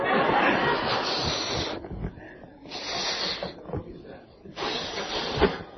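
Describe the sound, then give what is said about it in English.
Three long, breathy puffs of air blown into a balloon, each a steady rushing hiss lasting a second or more, separated by short pauses with faint breathing between. “Don't laugh, I can't blow the balloon up if I laugh.”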